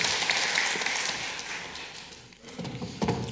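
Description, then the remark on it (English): An audience at a service claps steadily for a couple of seconds, a dense patter of many hands that thins out, briefly pauses, then picks up with a few scattered claps at the end. “Shall we give him a big clap?”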